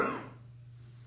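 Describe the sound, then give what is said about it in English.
A single sneeze bursts out at the very start, then fades quickly, leaving only a steady low hum in the background. Nobody talks. “Bless you.”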